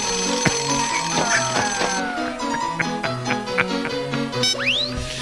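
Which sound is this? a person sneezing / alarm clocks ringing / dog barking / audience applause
alarm clocks ringing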